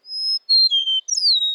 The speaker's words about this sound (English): Today, rather than the roar of cannons, fields like Antietam are filled with the songs of blue grosbeaks. Eastern meadowlarks,